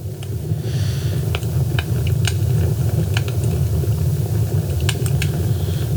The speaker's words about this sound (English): Hey Siri, play ambient sounds. Now playing fireplace. And it just picked one for fireplace.